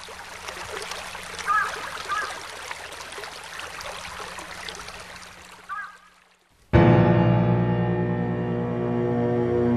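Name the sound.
flowing water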